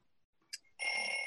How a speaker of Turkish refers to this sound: Tekrar bir alarm sesi duyuyoruz karanlıkta. Bu sefer ana karakterimizin kitaplığındayız. Kitaplığın arkasına gizlenmiş alarm sesini, alarm saatini durduruyor.